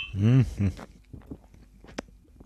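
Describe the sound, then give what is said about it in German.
A voice speaks briefly, then after a short pause comes a single bright, sharp clink of glasses touching in a second toast while tasting a passion fruit drink, over quickly. “Nochmal, Prost.”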